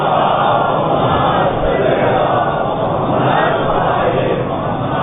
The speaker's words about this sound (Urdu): ایک اور سلوات پڑھ لے باوازِ بلند.